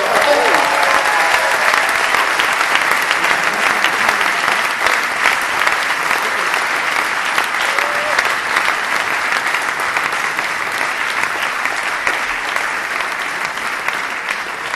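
Sustained audience applause at a summer concert for the 12th-grade students who passed their Abitur, a dense, steady wash of many hands clapping at an even loudness with no let-up, and no clear talking over it.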